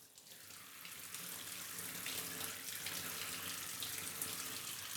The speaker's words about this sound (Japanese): よし、じゃあシャワーで流すからまだ目はつぶったままでいて。